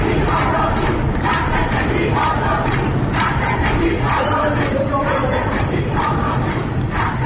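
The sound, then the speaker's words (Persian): A crowd of protesting lawyers chants slogans loudly in unison, including "Woman, Life, Freedom", voices rising in a steady rhythmic pulse about once a second, with a constant roar of many voices underneath throughout. “صدای اعتراضی این وکلا رو میشنویم.”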